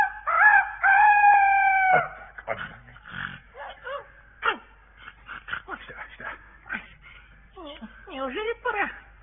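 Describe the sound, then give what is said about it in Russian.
A rooster named Chanteclair crows loudly for about two seconds, then a jumble of shorter squawks, yelps and dog-like whimpers follows in quick, uneven bursts. “Молодец, мой петушок.”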